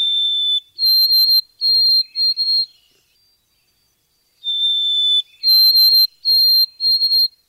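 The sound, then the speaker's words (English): A white-throated sparrow sings two clear, high whistled songs with a pause between. Each opens with a long, slightly lower note, then steps up to a series of shorter, evenly pitched whistles. “That's white-throated sparrow.”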